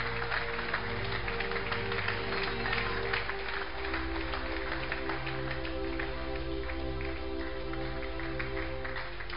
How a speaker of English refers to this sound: Let's clap. You are touching your beer instead of clapping, because you can do miracles.